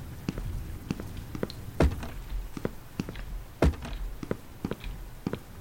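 Steady, evenly paced footsteps of a character walking around a sofa in a video game tap along for several seconds, punctuated by two louder, heavier thumps partway through. No one speaks.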